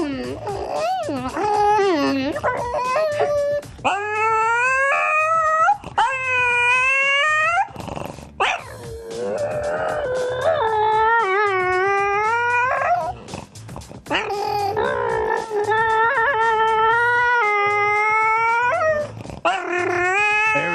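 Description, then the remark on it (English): A French bulldog lets out long, loud growling vocalizations that rise and fall in pitch like a revving engine, continuing in drawn-out bursts with only brief pauses between them. “He's revved up. Thinks he's a race car.”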